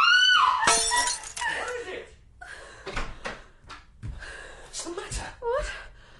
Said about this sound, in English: The glass, I dropped it. Never mind the glass.